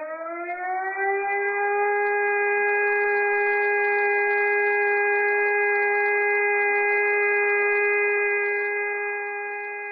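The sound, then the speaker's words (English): A civil defense siren in Prague, Czech Republic, sounding at noon during the regular first-Wednesday-of-the-month siren test, winds up over the first second into a loud, steady drone with stacked harmonic tones, holding level before easing slightly at the end; no voices. “Visitors to the Czech capital may be a bit alarmed if they happen to visit the city on the first Wednesday of the month, when sirens around Prague suddenly go off at noon.”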